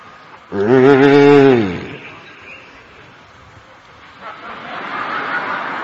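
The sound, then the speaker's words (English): A person's voice imitates an angry bull's roar: one loud, drawn-out bellow of about a second and a half, then quieter background noise and faint rustling. “And the bull with angry eyes is looking at the clouds and roaring.”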